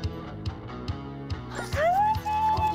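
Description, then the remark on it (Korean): A puppy at the sea gives a series of short, sharp yips at a steady pace, then breaks into a long, high-pitched whimpering whine that rises and holds, clear. “강아지는 다 할 수 있어요.”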